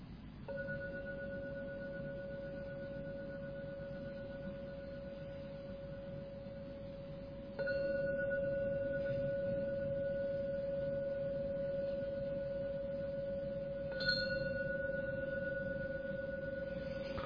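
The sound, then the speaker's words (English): A gong is struck three times to end a meditation session, roughly seven seconds apart, each strike blooming into a steady, humming ring that sustains and overlaps the next, with no voices. “So I'm now going to ring the gong 3 times to end this meditation session.”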